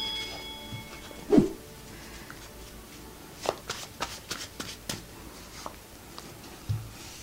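Tarot cards being shuffled and drawn, seven cards and then one more: a sharp riffle burst, then a series of light, crisp card snaps and slides at an uneven pace, with no voices.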